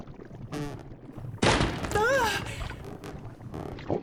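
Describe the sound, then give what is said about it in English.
A chair breaks with a sudden loud cracking crash that bursts out for about a second while a voice cries out over it; softer vocal sounds come before and after. “What was that? The chair broke?”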